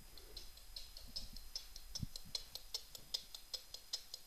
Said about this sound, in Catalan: Ara mateix sona un rellotge ben especial perquè és un losada amb una tècnica molt antiga... que dèiem al principi, eh? Losada va ser un gran rellotger espanyol que es va basar a Anglaterra